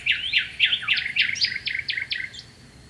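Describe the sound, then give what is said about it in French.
A bird sings a quick, steady series of bright whistled notes, each phrase sweeping up and down, clear above a faint background hiss, with no voices. “L'oiseau put alors chanter des jours et des jours sans être interrompu.”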